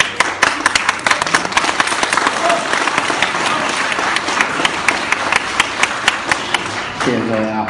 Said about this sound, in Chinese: 谢谢大伙的掌声鼓励